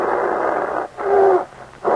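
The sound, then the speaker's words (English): A bear snarls and growls in harsh, rasping bursts, with a long rough snarl, a shorter throaty growl carrying a brief pitched whine, then another snarl starting up. No one speaks. “The air was full of the savage growls coming from the bear's throat.”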